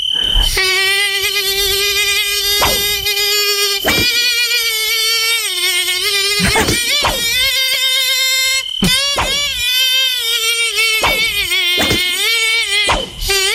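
A loud, continuous whine of a mosquito from La Rochelle fills the whole stretch, its high buzzing pitch wavering and dipping slightly, broken by a few brief clicks and cuts, with no voices over it.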